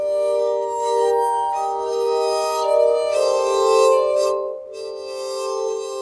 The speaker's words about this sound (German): das in der Ecke steht, eine sogenannte Glasharmonika